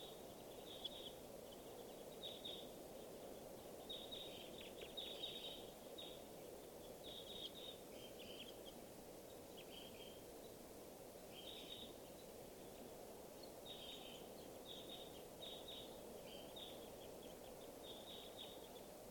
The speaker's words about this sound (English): And birds are all flying over to the watering area. So I see lots of crossbills here. Good numbers.